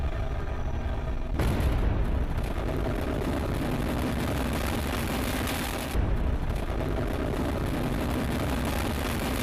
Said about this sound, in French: C'est la mise à feu. Les 4 moteurs s'allument. Ariane est propulsée vers le ciel.